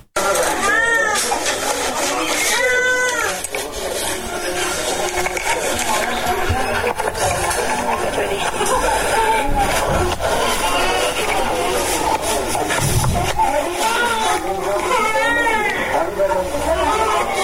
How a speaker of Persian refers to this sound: نوزادانی که از گرسنگی ناله می کنند و به جای آغوش مادر به بستر شفاخانه رفتند. این نوزادان که به جای آغوش مادر در نخستین لحظات پس از به دنیا آمدن صدای شلیک و فریاد را شنیدند، اکنون در شفاخانه بستری هستند تا بستگانشون پیدا شود.